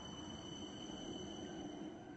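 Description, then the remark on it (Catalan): A train rumbles steadily into a station while thin, sustained high-pitched brake squeals ring over the low, continuous roar of the wheels, with no voices. “Mentre compraven els bitllets van sentir l'enrenou del tren que irrompia l'estació entre xiscles de frens.”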